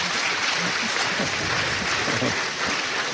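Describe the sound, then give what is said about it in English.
Sustained audience applause fills the whole stretch, a dense, even roar of many hands clapping at steady loudness, with faint voices murmuring underneath. “I think your applause is for the Holy Spirit.”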